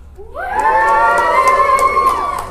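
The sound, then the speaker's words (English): A crowd cheers and whoops to show they are getting Sun, the sound swelling quickly from a single rising shout into a sustained, loud roar of many voices that holds steady for a couple of seconds. “So cheer if you're getting Sun.”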